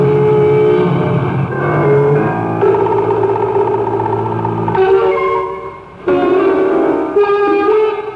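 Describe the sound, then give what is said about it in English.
A motorboat engine roars loudly and steadily on a lake, its pitch rising and dropping as it surges past, with no voices. “They're cutting across. Hold on, I've got to swerve.”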